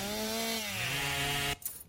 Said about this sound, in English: Chainsaws!